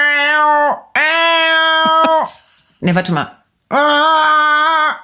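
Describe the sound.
A person imitates crane calls with three long, loud, nasal trumpeting tones, with a brief spoken remark between the second and third call.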